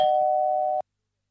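A doorbell rings once as a single steady, mid-pitched electronic buzz lasting just under a second, then cuts off sharply into silence.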